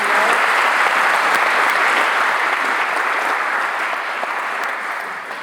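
Sustained applause from an audience for the speakers, a dense wash of many hands clapping that holds steady and then slowly tapers off toward the end.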